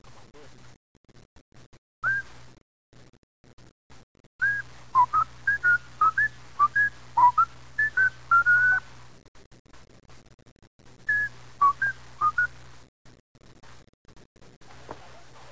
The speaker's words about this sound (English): And, listen, they like to hear you whistle this song. Will you do that? Will you? Sure.